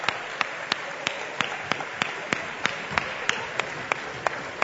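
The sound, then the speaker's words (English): An audience at a Christmas service applauds the children about to perform, with a steady beat of sharp, evenly spaced claps standing out over a continuous wash of crowd clapping and murmur. The sound is moderate in loudness, with no clear speech. “Why don't we give them a round of applause for our children?”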